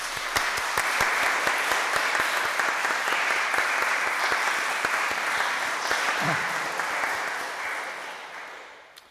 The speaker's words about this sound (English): So shall we just show our appreciation by giving him a big clap?